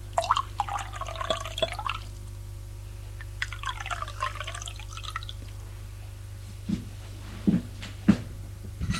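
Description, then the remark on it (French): Wine is poured from a bottle into two glasses on a table one after another, each pour gurgling with a rising pitch as the glass fills, followed by a few short, sharp clinks against a low steady hum. “Et revient avec une bouteille de vin et deux verres qui pose sur la table. Et fait le service.”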